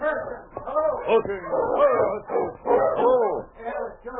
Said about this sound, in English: and was driving his dog team at a fast pace on the trail to 40 Mile.